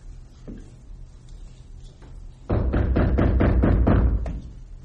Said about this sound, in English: Behold, I stand at the door and knock. Did you hear that? I stand at the door and knock.